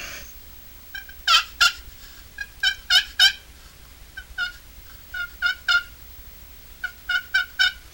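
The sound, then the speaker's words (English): Soft, raspy turkey tree yelps played on a handheld turkey call, a one-of-a-kind call finished in 1984 and made for the 1985 Turkey Federation Convention in North Carolina, coming in short clusters of two to four notes with brief pauses between, clear with no talking. “Tree call type of sound.”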